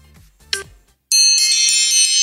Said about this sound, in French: Oula. Oh là, c'est quoi ça? Oh, c'est horrible. C'est mon réveil matin, j'en ai trois de suite comme ça. Oh l'enfer. Ah, t'as l'impression qu'il y a quelqu'un qui passe avec un petit bâton à côté d'un truc là, ah non, un carillon.